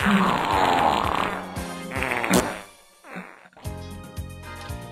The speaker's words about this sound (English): It's been a while since we've had the old montage. Yeah, the fart grand finale. Yeah. That's what that's labeled. It's the Excalibur, like on 4th of July.